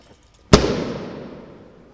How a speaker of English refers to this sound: Now then, I'm going to burst the balloon. I always warn people when I'm going to burst a balloon.